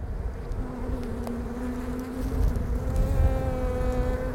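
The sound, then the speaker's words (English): A swarm of African killer bees buzzing at their hive in the crook of a branch of a baobab tree, a continuous low droning hum with overlapping wingbeats that swells slightly louder partway through, with no voices. “We follow its song and undulating flight to a baobab tree where it lands in the crook of a branch next to an African killer beehive.”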